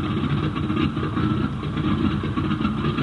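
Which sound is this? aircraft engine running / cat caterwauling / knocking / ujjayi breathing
aircraft engine running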